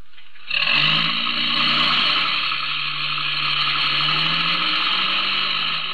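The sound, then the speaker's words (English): A truck engine catches abruptly and settles into a loud, steady roar, its low rumble shifting slightly in pitch as it revs and pulls away. No one speaks. “Get in the truck.”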